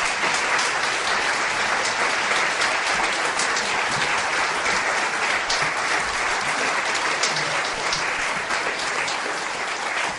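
Sustained audience applause, a dense steady wash of many hands clapping at an even loudness for about ten seconds, with no one speaking over it. The applause is for a group of tribal historians.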